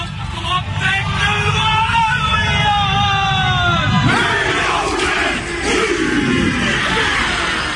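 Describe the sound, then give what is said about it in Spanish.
A crowd of voices roars a rallying cheer together, loud and sustained for several seconds, with a long drawn-out shout that shifts and swells midway before the group carries on yelling. “Necesito una arenga, dale.”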